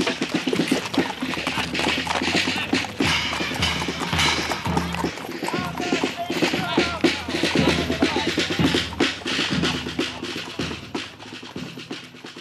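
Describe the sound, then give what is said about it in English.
Steady clip-clop of horse hooves pulling a wagon, a brisk rhythmic trot amid a busy crowd murmur, with occasional rattles and wheel noise continuing throughout. “In the old days, when the circus was coming, it was all horse-drawn.”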